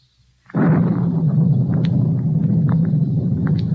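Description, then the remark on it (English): After a brief near-silence, a loud rumble of storm thunder breaks in suddenly and keeps rolling, deep and heavy, with scattered crackles over the low roar. No one speaks. “As I came closer, a collar turned up against the storm.”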